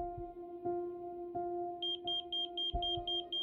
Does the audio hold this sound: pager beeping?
yes